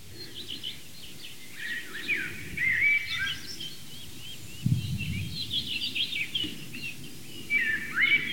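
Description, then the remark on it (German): A blackbird sings in repeated melodic phrases, with a robin's thin, high warbling faintly underneath, over a low outdoor rumble; no one speaks. “Währenddessen genießt ihr die Amsel, das ganz zart unterlegt ist vom Rotkehlchen.”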